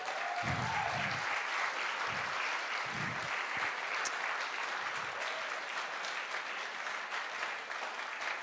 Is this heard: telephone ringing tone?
no